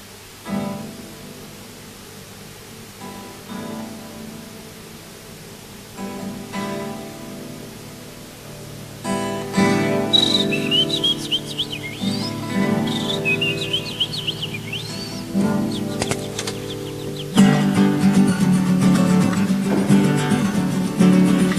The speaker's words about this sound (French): On entend des petits oiseaux. Et de loin, de très très loin, le son d'une cloche, d'une église, très loin, à peu près comme ceci.